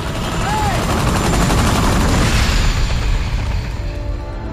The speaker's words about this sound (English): The twin rotor chopper scatters the skuas as it comes in to land.